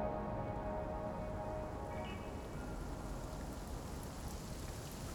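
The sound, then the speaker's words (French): Steady rain falls continuously, a dense, even hiss of drops spattering on surfaces, moderately loud, with no voices or other sounds breaking through. “Une heure plus tard, son bel élan était un peu essoufflé, comme elle était toujours dehors, perdue, sous la pluie qui avait repris.”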